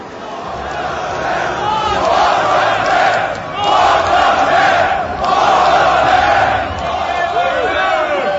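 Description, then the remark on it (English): A large rock concert crowd roars continuously, cheering and shouting in loud swelling waves with many overlapping voices and whoops, the noise briefly dipping before surging again. “To say that you're one of the best fucking crowds we ever played for.”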